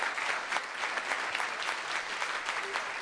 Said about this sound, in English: From the past, they're Vietnam veterans, and several of them are with us today. Is that right? Where are they? Round of applause. Big round.